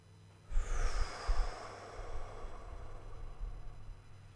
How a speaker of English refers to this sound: take a couple big breaths through your mouth, filling your belly and your chest and your shoulders, and then breathing out through your mouth.